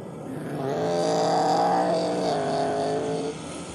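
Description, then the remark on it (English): A pace car's engine drones steadily for a few seconds as it rolls off the grid to lead the race field, a rich layered hum that swells slightly as it pulls away before easing off near the end, with no voices. “Let's get the pace car is rolling off.”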